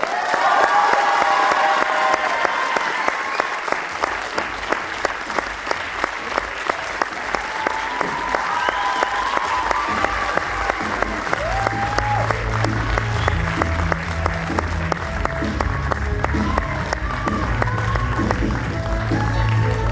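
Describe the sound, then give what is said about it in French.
Loud, sustained applause from a large crowd for actor Robert Picardo, dense clapping with some cheering mixed in, and a low hum of voices rising beneath it toward the end. “Je vous demande un tonnerre d'applaudissements pour monsieur Robert Picardo.”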